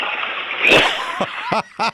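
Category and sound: household object, toilet flushing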